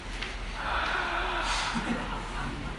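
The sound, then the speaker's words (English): A person breathes in an exaggerated, loud, heavy way, a steady rush of breathy air lasting a few seconds with no words spoken. “Like, imagine if I walked into the room, right? And you're like, hey, how's it going? And I'm like, I'm breathing.”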